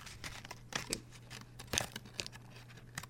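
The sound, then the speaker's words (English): A crinkly foil or plastic chocolate wrapper being unwrapped: a run of irregular crackles and tearing rustles, some sharper bursts among softer rustling, over a faint steady low hum, with no talking. “Then you unwrap the chocolate at home.”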